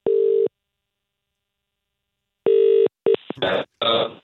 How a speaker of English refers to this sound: Ringing him then, are we? Can do. Oh. Good. Seems he's through already.